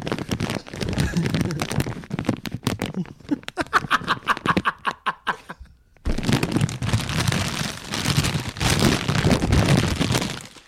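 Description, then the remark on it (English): A rough storm out in the deep ocean, out of sight of land, roars with dense, hissing rushes of wind and rain, broken midway by a run of sharp crackling bursts before the loud, steady roar returns. “That's a storm out on the, in the ocean.”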